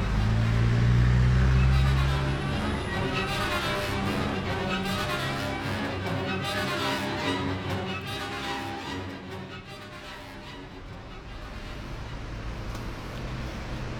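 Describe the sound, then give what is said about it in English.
An open-top bus rumbles east through busy traffic in the middle of London, its deep engine drone loudest at first, then settling into a steady wash of road noise and passing vehicles, with faint voices in the background. “Sitting next to me on an open-top bus pushing east through the middle of London”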